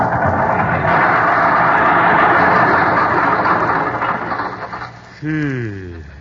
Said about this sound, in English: Yet that's where we find him today, just turning into his driveway and heading for the garage. Something seems to be amiss, and it sounds like the motor.